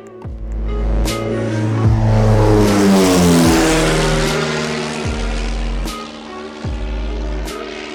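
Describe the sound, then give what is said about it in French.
A PA28 light propeller airplane's engine drones loudly and steadily during takeoff and a turn, its buzzing harmonic hum rising and shifting in pitch throughout, with no voices. “on se retrouve toujours dans le PA28 avec un beau petit virage de Florence”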